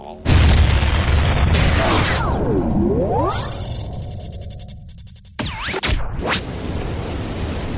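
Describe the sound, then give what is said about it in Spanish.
A loud cannon blast opens, trailed by whistling, swooping tones and rushing noise, then a second sharp burst near the end; no one speaks. “Al primero que veamos, lanzar mierda a la mar. ¡Cañonazo!”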